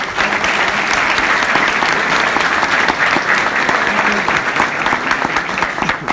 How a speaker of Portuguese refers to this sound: Então, uma salva de palmas para vocês que estão aqui hoje.